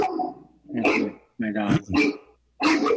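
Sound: dog barking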